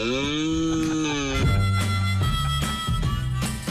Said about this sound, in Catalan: Però jo ja m'he imaginat com seria aquesta estratègia si la féssim servir nosaltres, les persones, aquestes brames. Són així.